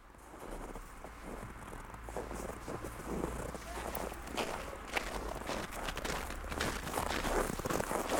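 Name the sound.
running footsteps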